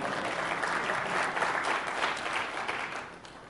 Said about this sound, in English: yeah, you can applaud anytime you like, that's fine.